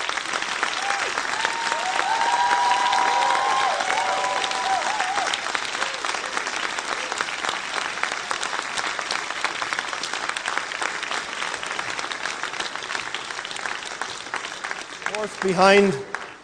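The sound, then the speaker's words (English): A large audience applauds the young people of a ministry, a loud, dense wash of clapping that holds for about fifteen seconds, with a brief whistle or cheer early on and a voice briefly rising as it ends. “Let's give them all one more round of applause, please.”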